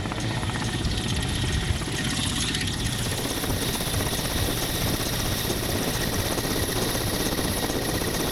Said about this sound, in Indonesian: So, penggunaan helikopter sangat efektif dan lebih cepat. Nah, kalau kita lihat posko contoh, mengambil masa lebih kurang 12 ke 15 jam untuk sampai. Dengan menggunakan helikopter, kita ambil masa dalam 20 minit sahaja.